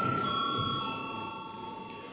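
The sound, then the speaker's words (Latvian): A parliament voting bell, an electric bell, rings continuously before a vote on a draft law in its second reading, with a bright metallic tone, fairly loud and sustained across the whole moment, with faint murmur beneath it. “Paldies, lūdzu zvanu.”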